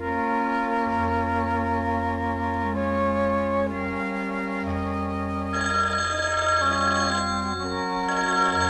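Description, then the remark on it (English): A telephone rings on and on, a bright, busy trill sitting over a steady low drone, fairly loud and unbroken for the whole stretch, with no voices. “He sits down on a chair, ignoring the ringing phone.”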